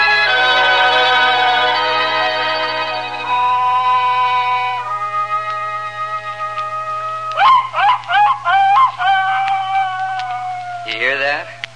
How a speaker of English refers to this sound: That's baying in the night, you might say. Just a dog that's chasing a fox. But to my paw, that was the sweetest sound this side of heaven.